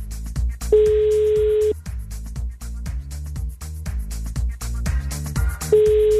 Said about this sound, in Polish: No to w takim razie próbuję się dodzwonić do kogoś z was. Mam nadzieję, że uda się już za pierwszym razem. Jest sygnał, to już jest dobra wiadomość.